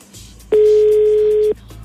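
A single loud ringback tone of an outgoing phone call, one steady electronic beep lasting about a second, with faint background noise before and after.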